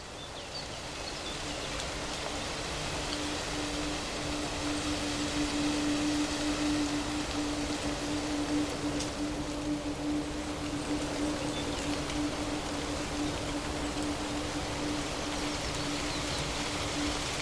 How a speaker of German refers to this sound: Leichter Wind bewegt die Blätter und das leise Rauschen klingt wie geflüsterte Geschichten des Waldes.